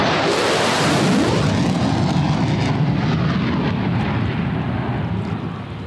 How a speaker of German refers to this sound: Irgendwann flogen 2 F-16 Kampfjets über mich